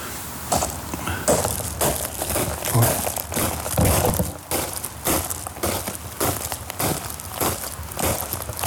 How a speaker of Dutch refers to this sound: Nou, ik vind niks mooier dan lopen door grind. Ik hoop dat ik geen mensen wakker maak... als ik nu toch even door het grind ga lopen. Even proberen, hoor.